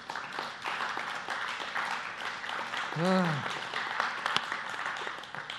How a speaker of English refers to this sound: I shouldn't have clapped.